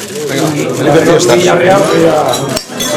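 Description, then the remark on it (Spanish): Glasses clink together in the Villarreal football club's annual holiday-season toast, bright little chimes scattered over a busy hum of overlapping voices and chatter. “Bueno, pues este es el brindis del Villarreal anual, ¿no?”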